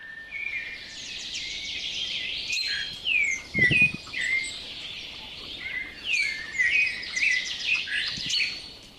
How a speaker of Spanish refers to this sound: El pequeño Cenzontle regresó a casa y después de un tiempo logró entonar todos los 100 cantos que le habían regalado.